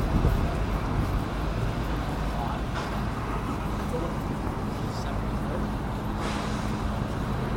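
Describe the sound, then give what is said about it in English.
Busy outdoor street ambience outside the Union Rooms pub in Newcastle, England, on a Friday morning in May 2014, where a couple of locals are drinking: a steady low traffic rumble and indistinct chatter, broken by a few brief sharp clatters. “Here's a couple of Geordies drinking outside the Union Room, outside the Union Room's pub.”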